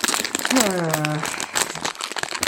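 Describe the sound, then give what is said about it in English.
Continuous crinkling and rustling of a sweet wrapper packet as someone reaches for another wine gum, crackly and uneven throughout, with a brief voiced sound early on partly under the noise. “Sorry, if there's rustling, I'm going to go for another wine gum.”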